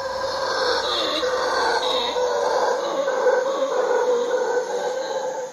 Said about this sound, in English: Amy Bovis runs a small hotel in Dominical, a surf town on the Pacific coast. People love the beach, sure, but she says they also love the sounds at night of the howler monkeys. She's recorded them.